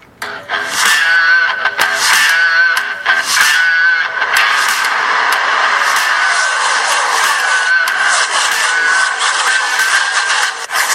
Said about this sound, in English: They're three wide down the backstretch, cars side by side, three wide, headed into the checkers.